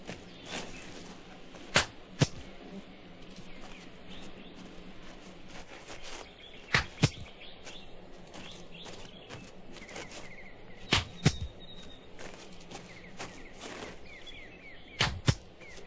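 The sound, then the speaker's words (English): Four pairs of sharp, cracking bursts spaced several seconds apart. In each pair a hand clap, made by a person walking around the shooter, is quickly answered by a gunshot fired toward the clap, over a faint hiss with soft insect-like chirps and no talking. “When I clap my hands, you point the gun in my direction and you fire.”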